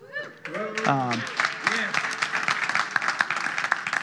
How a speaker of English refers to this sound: And you can, most of that applause, 99.9% of that applause is due to